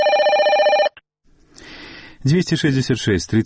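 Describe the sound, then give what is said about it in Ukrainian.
A loud telephone bell rings in one short trilling burst, then cuts off; after a brief pause and some faint hiss, someone starts speaking. “Круглые сутки мы чекаем ваших телефонований.”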